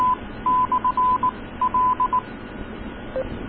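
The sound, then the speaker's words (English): A burst of EchoLink disconnect tones on an amateur radio net as the EchoLink connection is dropped: a quick string of short, mid-pitched beeps in an irregular pattern over radio hiss, then a single lower beep after a pause. “They just disconnected the echo link.”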